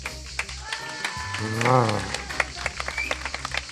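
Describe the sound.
An audience applauds a pupil who created a design chosen in a contest, with a steady patter of many hands clapping for several seconds, a voice briefly calling out over the claps partway through.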